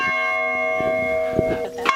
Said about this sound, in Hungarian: A kapesztránói harangtoronynak valami kis harangját halljuk ezzel.